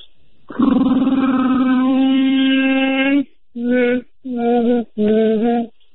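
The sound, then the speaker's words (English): A person imitates a Wookiee or Sasquatch call with a loud, rough, sustained howl lasting a few seconds, followed by three shorter, punchy bursts of the same growling cry. “But I got a Wookiee call or Sasquatch, depends on who hears it, but do you want to hear it?”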